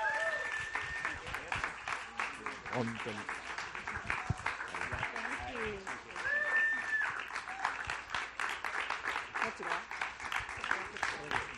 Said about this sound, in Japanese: よかったら皆さんぜひお立ち上がりいただいて拍手でお迎えしてください。